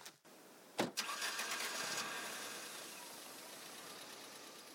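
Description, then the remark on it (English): A car engine cranks and catches with a sharp burst, then settles into a steady idle that hums on for several seconds with no one talking. “We'll get the car out of sight and start exploring.”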